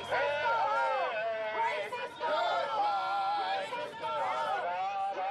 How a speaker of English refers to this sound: Every Saturday for the last 8 weeks, pro- and anti-immigration protesters line the sidewalks along Thomas Road, a major Phoenix street, and yell at each other.